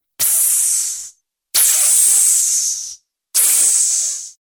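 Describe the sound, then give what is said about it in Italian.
A person imitates a snake's hiss with three sharp hissing bursts of about a second each, separated by brief silences, each trailing off at the end. “E il serpente?”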